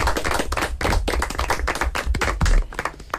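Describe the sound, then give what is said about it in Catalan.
A group of people applauding themselves, dense overlapping hand claps at steady volume for a few seconds, lively. “Anem a fer un aplaudiment per nosaltres mateixos.”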